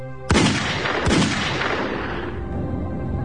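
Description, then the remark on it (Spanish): Two loud, sharp gunshots crack out about a second apart during a staged film shootout between a gang and police in a small space, using muzzle flashes instead of live bullets, followed by a dense, reverberant roar that lingers and slowly fades. No voices are heard. “Steve creará un tiroteo complejo entre la pandilla Barrow y la policía”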